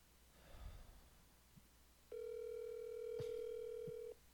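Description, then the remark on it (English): A single steady outgoing-call ringing tone sounds for about two seconds, clear, after a brief soft breathy rustle; a faint click interrupts it midway, and no one speaks. “And hey, I'm actually getting a our second ever call in.”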